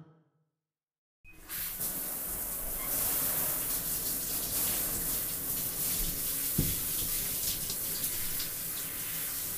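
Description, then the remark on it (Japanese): After a second of silence, shower water bursts on and runs in a steady hissing spray, rinsing soap foam off in a bath, splashing continuously until the end with no voices. “シャワーで泡流しますよ。”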